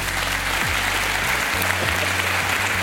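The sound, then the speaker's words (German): Steady applause from a sizable audience at the Frankfurt Book Fair in Germany, a dense wash of clapping hands that stays loud and even throughout, with a low hum underneath and no voices. “Und ich melde mich heute von der Buchmesse in Frankfurt mit dem Wissenschaftsjournalisten Ranga Yogeshwar und mit diesem Publikum.”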